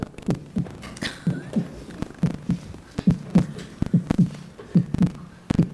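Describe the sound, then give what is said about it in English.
Low, muffled drum beats thud in a steady double-pulse rhythm like a heartbeat, repeating about a dozen times at moderate volume with faint higher clicks and hum between them. “Sure enough, it started to fall with snow because winter came, and those drum beats started to get fainter, just like the grasshopper's heartbeat.”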